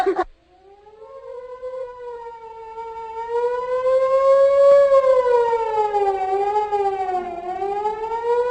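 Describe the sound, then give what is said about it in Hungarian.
A fire siren, signalling a fire somewhere, wails steadily, its tone slowly rising and falling in long sweeps that grow louder and fuller over several seconds, heard alone after a brief sharp noise at the start. “Hallod? Valahol tűz van.”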